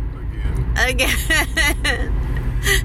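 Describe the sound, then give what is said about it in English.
A steady, low rumble of road noise fills the cabin of a moving Subaru car throughout, constant, with a person talking over it in bursts. “Well, you don't like driving in the sexy Subaru that is our car?”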